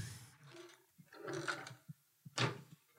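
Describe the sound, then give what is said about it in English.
A drawer in an ensuite bathroom slides open with a rattling, scraping rumble, followed by a few sharp knocks and clatters of its contents shifting, moderately loud with no talking. “So I've got a lot of space in this bathroom, and I suppose I could clear out a drawer or two. Let me see.”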